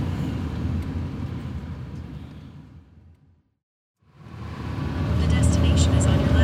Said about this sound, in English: Maybe you can even pull in, private parking. We pull into a parking lot and we all get out of the car.